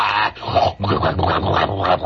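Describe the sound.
A person imitates a subway train with their voice, making a continuous rough, rumbling, growly noise that pulses unevenly for about two seconds at a loud, steady level.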